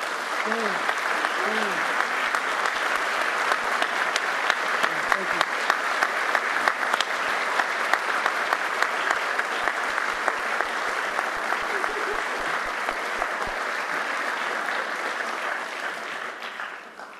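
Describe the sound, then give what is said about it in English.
Sustained applause from a large audience thanking university honorees, a dense, steady wash of clapping lasting about seventeen seconds, with faint voices and a few calls early on before it tapers off at the end. “I'd like to ask today's honorees to rise together as we thank them once again with our applause for what they do every day to make this, the university, what it has become.”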